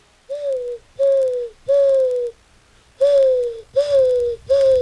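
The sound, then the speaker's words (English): A voice imitates a dove's cooing with six smooth, steady hoots in a row, each about half a second long with short pauses between, fairly loud with no talking. “All right, ready, dove?”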